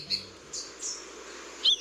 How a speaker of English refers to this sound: The Santa Marta saberwing is a hummingbird species so rare they've only been documented twice in recent years. Native to the mountains of Colombia, they're part of the hummingbird group called emeralds for their luminous green feathers.